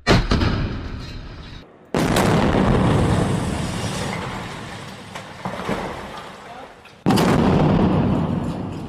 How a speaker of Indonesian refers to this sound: Suara ledakan yang baru saja Anda dengar adalah suara serangan rudal yang diluncurkan tentara Israel ke bangunan apartemen penduduk di Gaza.